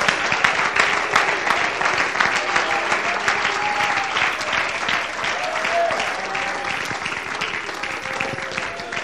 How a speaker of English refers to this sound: Clap your hands unto the Lord, all ye people.